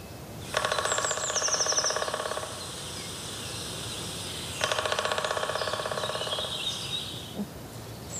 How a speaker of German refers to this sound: jetzt hören wir mal vom Handy, wie der Schwarzspecht trommelt.